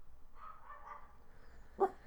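A dog lets out a single sharp bark near the end, preceded by some faint, muffled yelping; no one speaks.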